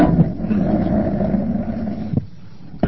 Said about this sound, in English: Let's move the microphone over to here.